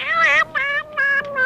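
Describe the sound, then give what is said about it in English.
A cat meows plaintively about four times in quick succession, each cry drawn out and loud, with no talking around it. “Lost cats who want their mama.”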